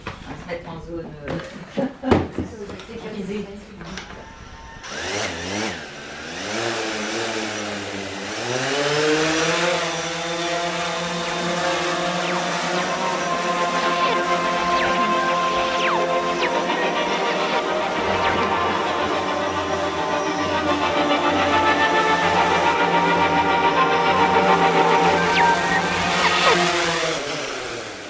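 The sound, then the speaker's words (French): A small consumer camera drone with a stabilized camera, used for photography, spins up with a rising whine, then hovers with a loud, steady, high-pitched propeller buzz. Voices can be heard in the background. “C'est un drone qui est utilisé plutôt par le grand public pour de la prise de vue.”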